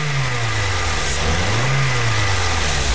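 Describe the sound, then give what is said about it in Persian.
A car engine revs and accelerates steadily as it pulls away from a traffic light that has turned green, its low rumbling pitch rising and dipping, loud, with no voices present. “حرکت کو وانه سبز شد بخیر.”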